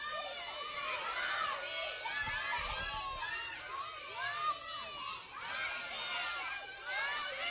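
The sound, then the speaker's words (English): A crowd of children shouting out all at once on a count of three, yelling what they think should be nailed to the cross; a loud, overlapping burst of young voices yelling different words together, sustained and energetic throughout with no single voice standing out. “On the count of three, yell out what you think we should nail to the cross.”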